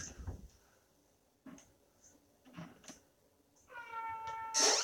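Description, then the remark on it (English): A few dull thuds and knocks sound at uneven intervals as a cat bumps or knocks something over, making a loud bang, and then a cat lets out a loud, drawn-out meow. “There was like a really loud bang noise, but I think it was a cat thing.”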